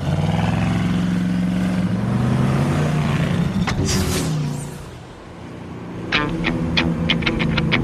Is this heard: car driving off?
yes